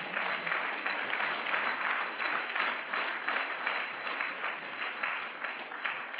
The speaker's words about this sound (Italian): Vogliamo fare un applauso a Gesù?